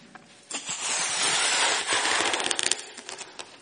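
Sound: balloon being blown up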